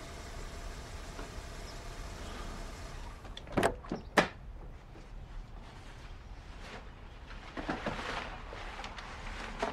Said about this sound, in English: She eases forward, driver's window rolled down. Her side mirror smacks the side of the garage door.